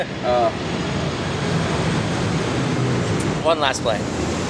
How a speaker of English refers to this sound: One last plane.